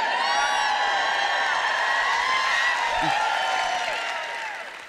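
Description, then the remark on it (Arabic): An audience of many voices shouts and cheers together in a "shouting party", a sustained, raucous roar of overlapping high yells, holding steady for several seconds before starting to fade at the end. “بإمكاننا الآن إقامة حفلة صياح.”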